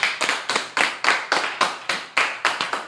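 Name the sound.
audience clapping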